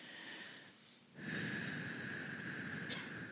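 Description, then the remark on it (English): Noisy breathing: a quieter breath, then a brief pause, then a long, forceful, steady airy rush that carries on to the end, slightly snort-like. No one speaks. “Breathing in and out works better.”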